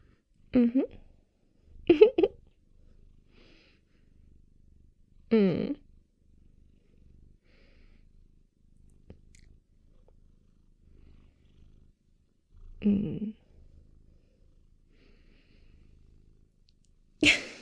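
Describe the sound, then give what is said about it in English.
A female cat purrs steadily and softly while being petted and cuddled, lying over a person: a low continuous rumble, broken a handful of times by brief, louder voiced sounds at irregular intervals. “Well, technically I'm cuddling the cat because she's very comfortably all over me right now.”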